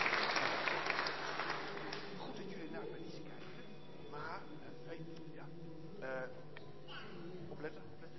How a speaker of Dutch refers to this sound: Applaus voor deze kinderen. En hun ouders natuurlijk. Super.